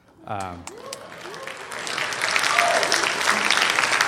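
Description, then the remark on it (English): A voice briefly speaks during a youth pastor's farewell address, then an audience breaks into applause that builds over a few seconds into a steady, dense wash of clapping, with a few scattered voices mixed in. “Hold your applause.”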